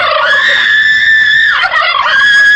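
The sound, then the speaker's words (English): A turkey gobbles loudly, a rapid warbling call that runs nearly unbroken for a couple of seconds with a brief dip partway through. No one speaks. “But remember, before cooking your annual Thanksgiving dinner, please be sure your turkey is ready.”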